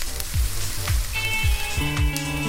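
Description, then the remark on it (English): Steady, continuous crackling sizzle of food frying in a pan, with a low rhythmic thumping and sustained tones running underneath. “Just frying up some hot take headlines.”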